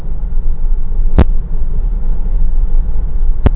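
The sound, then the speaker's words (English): A car engine hums steadily while driving, a constant low rumble heard from inside the vehicle, broken by two brief sharp clicks. “Man, I wish I could get a different car.”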